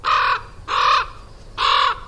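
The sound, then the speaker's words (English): Several American crows picking through trash strewn across a sidewalk caw three times in an even rhythm, each call a loud, harsh, raspy burst lasting about a third of a second, with no voices. “Crows call. While ravens croak.”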